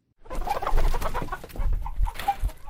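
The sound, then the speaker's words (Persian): A dense chorus of chickens clucking and murmuring at a poultry farm in Bamyan province, continuous and busy, with occasional sharper calls rising above the flock and a low rumble of barn noise underneath. “در سالهای اخیر دهها مرکز پرورش مرغ در بامیان ایجاد شده است که از این ناحیه درآمد خوبی نصیب مرغداران ولایت بامیان می شود.”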